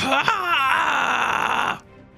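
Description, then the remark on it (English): A loud scream at the top of the lungs, wavering briefly at first and then held steady and strained for under two seconds before cutting off abruptly into quiet. “you just hear Magda scream at the top of her lungs, and you figure that now is the time to take your move.”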